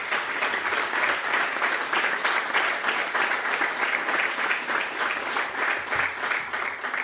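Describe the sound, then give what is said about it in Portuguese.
Sustained audience applause for the football coach of Sporting Clube de Portugal fills the space, a dense, steady patter of many hands clapping at a consistent loudness throughout, with no one speaking over it. “o nosso treinador Jorge Jesus, para quem peço uma salva de palmas”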